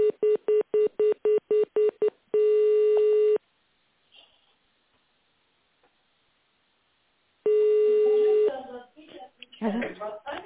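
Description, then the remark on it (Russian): Touch-tone telephone dialing of an employee's extension in tone mode on a call to Road Construction Administration No. 2: a quick run of about eight short, evenly spaced beeps, then a longer steady tone, a quiet pause, another long tone, and a voice starting to talk. “Если вы знаете внутренний номер сотрудника, наберите его в тональном режиме или дождитесь ответа секретаря.”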